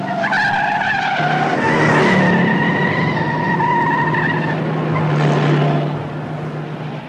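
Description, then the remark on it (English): Car tires skid and squeal in long, wavering high-pitched screeches over a loud roaring engine, rising and falling for several seconds before easing off at the end, on a road heading to Las Vegas. No one speaks. “I've been watching that car for over 2 miles, weaving in and out of traffic.”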